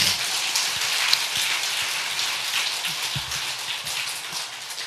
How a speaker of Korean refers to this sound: 박수 한번 칩시다.